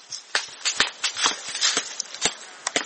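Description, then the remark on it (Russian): Horse hooves clip-clop at a steady walking pace, a series of sharp knocks with a faint scuffing texture between them and no voices. “Коня, ребенка! Пошлите!”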